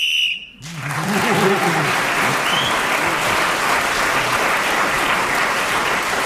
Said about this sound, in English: That must be the first time anybody's got a round of applause for admitting they cheated.